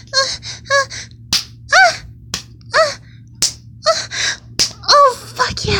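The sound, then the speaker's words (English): Four sharp slaps of a hand on bare buttocks land about a second apart, interspersed with breathy gasps and vocal sounds. “Slapping my ass.”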